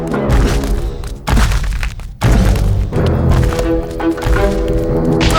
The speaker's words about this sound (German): Die Maus ging los und der Gryffalo stampfte dicht hinter ihr her.